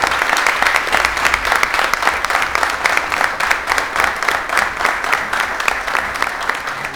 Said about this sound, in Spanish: Un aplauso muy fuerte para ellas.